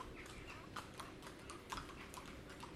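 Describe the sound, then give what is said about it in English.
Ponies' hooves clip-clop past in a steady, uneven rhythm of hard knocks, fairly faint over a constant outdoor background hum, at Haggerston beside a big line of trees. “So anyway, and there goes the horses, or the ponies.”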